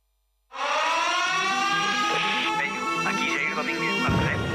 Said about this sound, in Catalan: I aquesta que és la sintonia del búnquer de Catalunya Ràdio que guanya Premi Ondas amb millor programa de ràdio de proximitat. Se tracta d'un espai d'humor que conduïssen Jair Domínguez, Peyu i Neus Rossell.